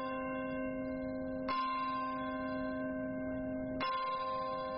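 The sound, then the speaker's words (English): The Bell of Hope in the churchyard of St. Paul's Chapel in Lower Manhattan tolls slowly at a memorial, marking the moment a hijacked plane hit the World Trade Center's North Tower, struck twice about two seconds apart, each deep ringing strike overlapping the lingering hum of the one before. No voices are heard. “Paul's Chapel in Lower Manhattan, the bell of hope began to toll at the moment when a hijacked plane hit the North Tower of the World Trade Center.”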